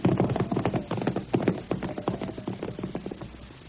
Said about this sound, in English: My horse is all saddled and ready to go. Well, what are we waiting for? Let's go. Come on, Storm. Come on, Blackie. Come on, girl.